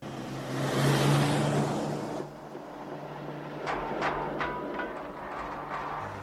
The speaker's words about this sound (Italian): Niente, sarà stata la strada dissestata, ma questa non c'è problemi, ragazzi, è un'auto corazzato, diciamo, ha tutta una struttura accrocchiata.